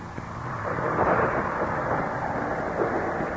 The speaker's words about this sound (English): The storm is increasing again. It sounds almost as if the voice of the heavens is protesting.